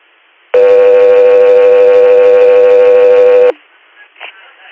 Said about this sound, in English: Guthrie Air, standby for tones.